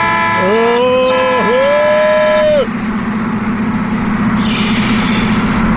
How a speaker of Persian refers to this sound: او نگاه کنه نیسان تزوری داره رانندگی میکنه، بذار یه بوق واسش بزنم ششش حال بیاد.